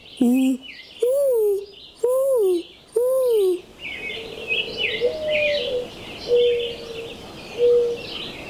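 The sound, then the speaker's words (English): A boy imitates a mourning dove with four breathy, rising-and-falling hoots in steady rhythm, then softer drawn-out coos follow while small birds chirp faintly in the background. “I can imitate a mourning dove.”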